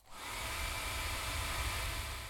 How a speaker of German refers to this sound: Ihr braucht also lediglich einen Föhn und ein Gerät zum Aufnehmen. Wenn ihr den Föhn so haltet, dass er im rechten Winkel am Mikrofon vorbeibläst, hört sich das dann so an.